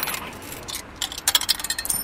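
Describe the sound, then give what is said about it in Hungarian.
Coins clink and rattle as they're fed into a parking meter on a street in Budapest, a quick run of bright metallic clicks and taps, with no one speaking. “Nincs nálad apró a parkoló órába?”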